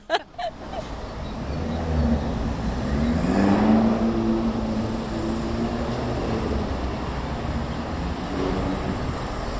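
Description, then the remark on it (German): Steady street traffic on Feldbergstrasse with cars rumbling past, one vehicle swelling louder around the middle as it passes, over a continuous low road noise with a few brief clicks at the start. “Ich habe jetzt einfach mal Geräusche aufgenommen, wie die Feldbergstrasse tönt. Und man hört Autos, man hört Velos, man hört aber auch Vögel, wenn einmal irgendwie eine rote Phase ist und gerade mir keine Autos durchdonnern.”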